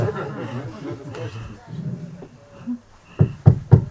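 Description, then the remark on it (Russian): After a stretch of low, murmuring voices, someone raps on a door about four times in quick succession, loud, the knocks landing near the very end. “Они хотят войти?”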